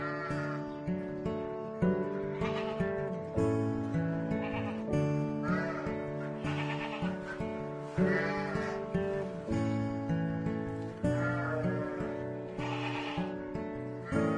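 A herd of goats on a small farm in the Lofoten Islands, Norway, bleats almost nonstop, many wavering calls overlapping into a loud chorus with new cries starting every second or two. No one speaks.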